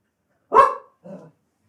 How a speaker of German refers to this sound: War das deine Antwort oder die deines Hundes? Das war die Antwort meines Hundes.